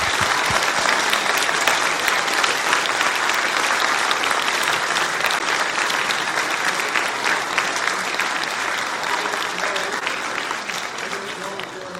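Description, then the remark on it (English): A large audience gives a standing ovation after a Christmas concert, clapping steadily and loudly for the full length, a dense, continuous roar of hands that holds strong and only eases slightly near the end. “Let's give another round of applause, please, tonight.”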